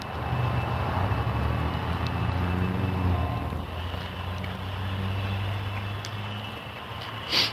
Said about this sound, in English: That would just be the weird echoes. Somebody's running a leaf blower. Makes it sound whistly higher than it is.